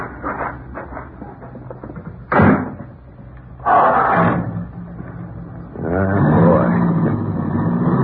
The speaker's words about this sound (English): Sure is smooth. I'm going to get me a new car soon. Ah, sure does hum, don't you?